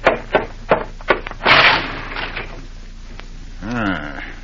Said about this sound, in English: Car crashed into the lamppost right in front of the house.